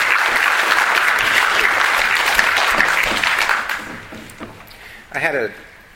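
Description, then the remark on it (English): An audience breaks into a dense, steady round of applause for three people credited with improving comics; it holds for a few seconds, then thins out and fades, with a brief voice speaking up at the end. “And they deserve a round of applause from any of you who care about how comics have improved in the last.”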